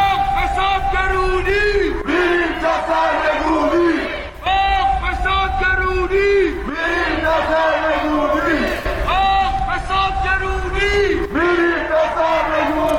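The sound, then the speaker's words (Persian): A large crowd at a protest shouts slogans in unison about poverty, corruption and overthrow, chanting in a steady repeated rhythm with loud, massed voices, continuous throughout. “و البته خلاقیت در ساخت شعار کارش به اونجا رسیده که در اعتراضات دیشب توی فریادهای مردم نتیجه فقر و فسادی که کشور رو در بر گرفته چیزی جز سرنگونی نبود.”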